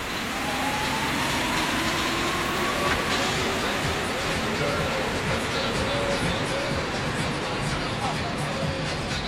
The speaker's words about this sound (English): let's take another trip on the Metro.